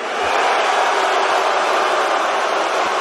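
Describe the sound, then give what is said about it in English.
A large crowd boos Hulk Hogan loudly and steadily as he walks out on TV, a dense, unbroken roar of many voices that holds at the same level for the whole three seconds. “Listen, Hulk Hogan got booed the last time he was on TV.”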